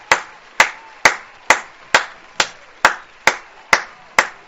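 A slow, steady run of about ten sharp single claps, evenly spaced roughly twice a second, each crisp and fairly loud with a short decay, and no voices.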